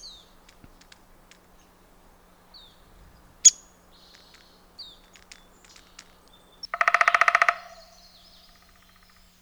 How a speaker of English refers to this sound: The next one that we're gonna listen to is the downy woodpecker. This is the second woodpecker we've heard. And let's give a listen to the Pacific call of the downy woodpecker.